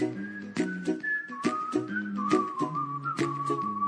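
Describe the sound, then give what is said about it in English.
A bright, clear whistled melody of a pop song glides over a bouncy backing track with low bass notes and steady percussive beats, prominent, with no talking. “here's the song, "…." If you know it, you could even whistle along.”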